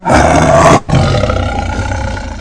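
A tiger roars loudly in two powerful bursts, a brief gap between them, the second roar trailing off into a rumbling growl. No one speaks.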